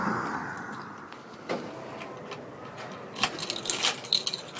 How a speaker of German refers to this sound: Was wir hier hören, ist der Schlüssel der Stadtbibliothek Bremerhaven. Wir gehen durch den Haupteingang rein